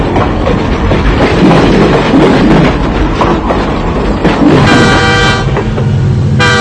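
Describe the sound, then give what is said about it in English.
An old locomotive horn toots over the loud, steady rumble of a passing train, with one long blast followed by a shorter toot near the end. No one speaks. “That's a pretty old train.”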